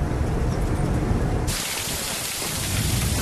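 heavy rain pouring down

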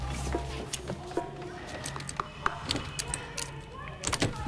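lock being picked

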